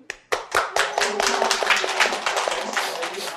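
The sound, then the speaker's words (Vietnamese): A short burst of audience applause, many hands clapping together in a dense patter that starts suddenly and keeps steady for a few seconds. “Cho một tràng vào tay.”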